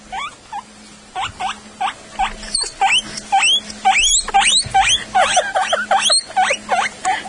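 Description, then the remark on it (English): A woman imitates a guinea pig's wheeking: a long run of rapid, high-pitched rising squeals, getting louder and quicker toward the end, with no talking. “Here comes the guinea pig weaking noise.”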